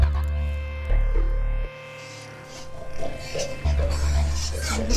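Very fat pigs grunt and oink in short, uneven bursts over a steady low hum, moderately loud, with no clear talking.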